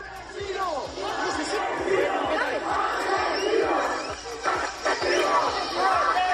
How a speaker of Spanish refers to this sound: de los Reyes, además de Pedro Sánchez y Carlos Mazón, se ha tenido que cancelar debido a los fuertes reproches de los vecinos de la localidad, que los han recibido con abucheos y lanzamientos de objetos a causa de la situación que están atravesando.